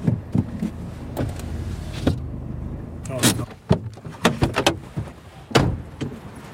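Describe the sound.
A car engine rumbles low as the vehicle parks at night, followed by the brief whir of an electric window and several sharp door clunks and clicks, with faint voices in the background.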